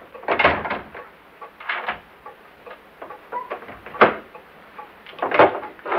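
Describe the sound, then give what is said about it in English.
A door thuds shut, followed by a few separate clunks and scrapes of a lock and bolt being worked, spaced unevenly over several seconds, with no voices. “I shall lock and bolt the door once you're outside.”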